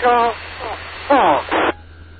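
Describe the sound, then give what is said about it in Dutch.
Short bursts of a garbled, unintelligible voice come through an amateur radio over a steady bed of static, tinny and band-limited, fading in and out across about two seconds. “En dan hoorde ik nog iets, maar er viel niks van te maken.”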